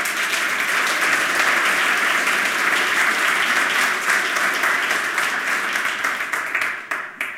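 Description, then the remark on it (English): Sustained applause from a sizable audience welcoming a speaker before a talk on source routing vulnerabilities in SIP home gateways, a dense wash of clapping that holds steady before thinning into a few scattered claps at the end. “Please give him a round of applause of welcome.”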